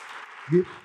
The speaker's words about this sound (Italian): Vorrei ringraziare i nostri ospiti con un grande applauso,